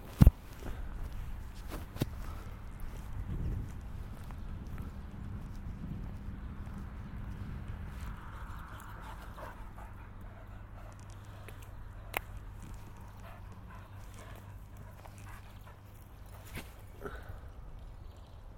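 Steady footsteps squelch across soggy, waterlogged grass on an island in an even walking rhythm, continuing throughout with a low rumble of outdoor wind behind them and no talking.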